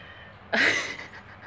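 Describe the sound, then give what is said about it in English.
A cat gives a single short meow that starts suddenly, rings out loud and bright, then fades over about a second against a quiet background. “Maybe the cat would like to join me.”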